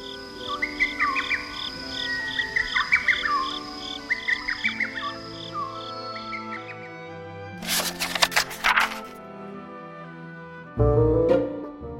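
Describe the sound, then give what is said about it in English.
A bird in a forest sings sweet, repeated warbling phrases over a steady pulsing insect chirr, followed by a couple of louder, brief bursts of rustling noise near the end. “On their third day in the forest, a bird called out to them sweetly.”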